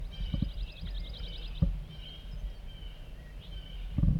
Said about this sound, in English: Chittering by a wild bird coming in.